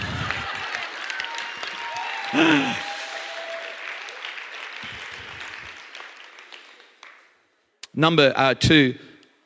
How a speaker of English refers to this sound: Now, I'm not going to preach any better than this, so maybe that's a good time for a clap offering if you